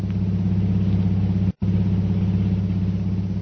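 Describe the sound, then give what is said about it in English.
A long, powerful car's engine rumbles steadily at a low, even pitch as it twists through the winding streets of Singapore's waterfront, loud, with a momentary break partway through and no voices. “An hour or two later, a long, powerful car twists its way through the winding streets of Singapore's waterfront.”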